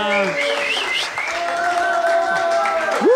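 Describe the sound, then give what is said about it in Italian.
An audience claps steadily for a few seconds in applause for the Madama Hostel, a dense, continuous patter of many hands, with shouts, whoops and a sustained whistle rising over the clapping. “Madama Hostel, un applauso a tutto il Madama.”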